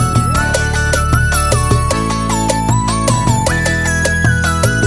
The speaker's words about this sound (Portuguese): É mais uma do …. Olha o piseiro sertanejo.